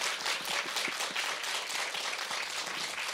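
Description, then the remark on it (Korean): An audience breaks into steady applause in support of two people working on the Holy One project, a dense, even wash of many hands clapping at constant loudness for about three seconds, with no one speaking. “이 두 분의 앞으로를 위해서 앞으로의 걸음걸음들을 위해서 우리 큰 박수와 환호로 응원해드렸으면 좋겠습니다.”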